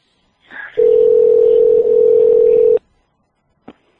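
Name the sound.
telephone tone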